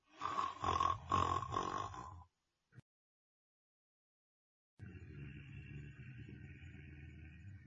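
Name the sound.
loud snoring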